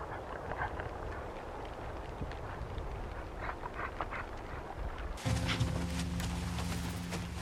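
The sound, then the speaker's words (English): Many hooves of the Porcupine caribou herd, heading south into the Brooks Range, trample over the ground in a dense, continuous clatter of overlapping steps at a steady moderate level. Near the end a low, sustained droning tone joins in. “The porcupine caribou herd is heading south into the Brooks Range.”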